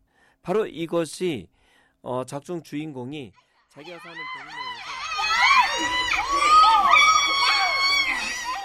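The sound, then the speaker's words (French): A lone voice talks briefly, then a group of five children bursts into agitated shouting, many high-pitched cries overlapping loudly, swelling into a sustained, chaotic clamor. “Ils sont très agités et poussent des cris.”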